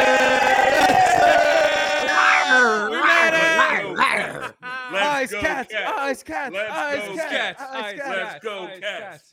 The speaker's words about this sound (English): Let's go, cats. Okay, for real, though. Chanting, right?